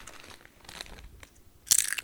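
Someone crunching on potato chips, with a few scattered crisp bites followed by one loud, sharp burst of crackling crunches near the end. No one speaks.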